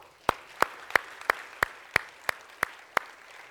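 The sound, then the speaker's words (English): An audience claps together in a steady rhythm, nine sharp, crisp claps in unison about three per second, with no talking over them. “Can we clap?”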